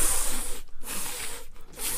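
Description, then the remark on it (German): A voice imitates a lawn water sprinkler, re-enacting a Milhouse sketch from The Simpsons, with three long, loud, breathy hisses separated by two brief pauses. The sound is bright and spray-like, with no talking. “Welchen Wassersprenger machst du lieber? Magst du den hier?”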